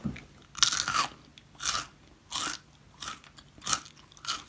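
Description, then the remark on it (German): Loud, repeated crunching of a crisp snack, with six bursts of bright, crackly chewing at a steady rhythm, separated by brief quieter pauses, and no talking. “Oh, knackt aber lange.”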